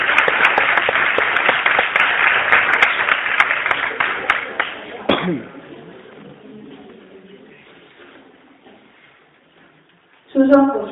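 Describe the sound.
A crowd breaks into dense, steady applause for about five seconds for a participant introduced to read a poem, then it stops abruptly and a quieter stretch follows with faint murmuring and a voice near the end.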